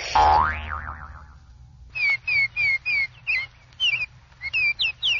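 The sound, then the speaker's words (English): A loud, wobbling cartoon boing of someone bouncing up into the air opens and quickly fades, then a series of bright, evenly spaced bird chirps repeats for several seconds. “But I think I'll bounce up in the air and see if I can find a bird that doesn't eat fish.”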